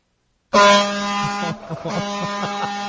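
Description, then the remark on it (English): A loud, blaring truck horn cuts in abruptly after a moment of silence, holding a steady, brassy tone for about a second before continuing more unevenly and slightly softer with choppy breaks. “is that the bus or it sounded like a pickup truck? It kind of sounded like a trash truck.”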